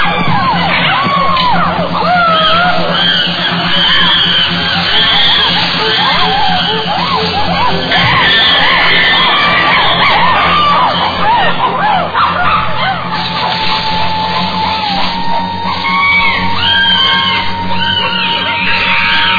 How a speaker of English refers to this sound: To intimidate their opponents, the aggressors scream and drum on buttress roots.